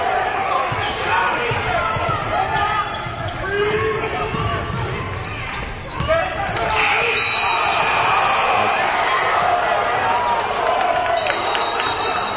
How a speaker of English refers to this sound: Now, there's the whistle as the refs gather to talk.